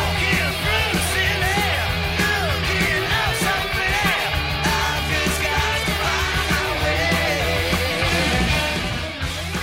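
A loud, driving heavy metal song with a punky edge: distorted guitars, pounding bass and drums, and a raspy, shouting lead vocal riding on top throughout.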